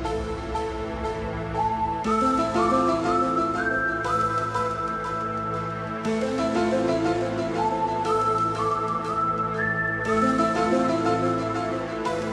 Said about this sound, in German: Intro, Orgelton, gepfiffene Melodie mit Bendings immer von unten und dann diese sich wiederholende Figur, das Arpeggio